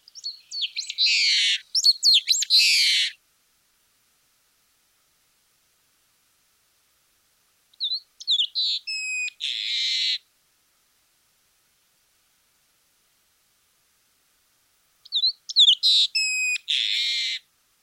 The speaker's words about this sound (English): Continuing even further south, in Argentina, we have a long-tailed meadowlark, Lystes loica. The specific epithet loica comes from the regional Spanish name for this bird, spelled L-O-I-C-A. Okay, here's a long-tailed meadowlark singing.